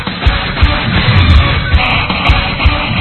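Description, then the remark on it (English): A loud, energetic crowd at a high school basketball game between the Wetmore Cardinals and the Onega Buffaloes in Onega, Kansas, roars and yells continuously, with bursts of whoops and shouts rising over a dense wall of cheering and low thumping underneath. “The squeak of the sneakers, the swish of the nets, bounce of the ball, and amped up crowd can only mean one thing.”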